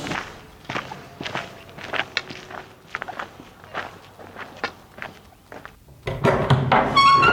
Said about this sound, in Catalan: En sortir del metro, em dirigeixo a la biblioteca caminant.